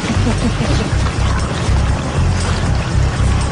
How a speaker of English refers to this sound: Now, it's time to test the new system. The extra fuel must flow from the bladders up to the main tanks in the wings.